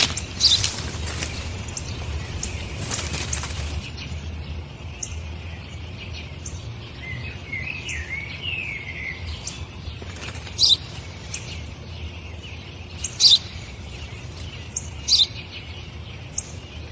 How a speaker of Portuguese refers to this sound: O que é aquilo? É um pardal. O que é aquilo? Eu já disse, pai. É um pardal.